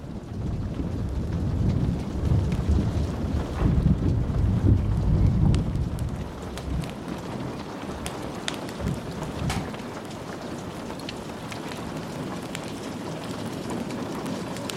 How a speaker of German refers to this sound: Während er das Gewitter beobachtete, durchströmte Valentin ein tiefer Frieden.